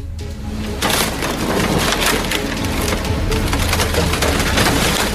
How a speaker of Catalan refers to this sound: I és que han començat les obres de remodelació de la zona comercial a l'Avinguda del Mediterrani, a la platja Gran de Pals. Diguem-ne, pels que coneixeu la zona, és aquella baixada on hi ha botigues.